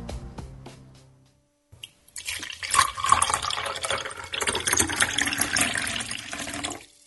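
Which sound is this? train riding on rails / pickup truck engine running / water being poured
water being poured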